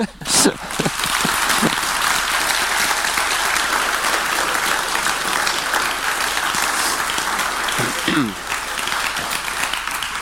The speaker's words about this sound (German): Dankeschön für den kräftigen Applaus.